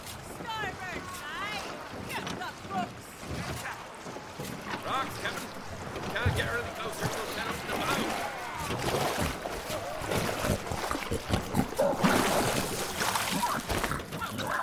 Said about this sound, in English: Keep rowing! I am, so help me. I'm trying!